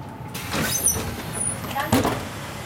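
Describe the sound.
A bus idles and rumbles to a stop in Egenhofen, near Munich, Germany, with bursts of hissing air and a brief high brake squeal over steady engine noise as a passenger steps off; faint voices can be heard underneath.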